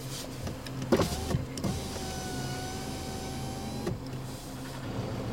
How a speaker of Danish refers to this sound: Bilen ruller op lige ved siden af Rasmus foran porten midt på den forladte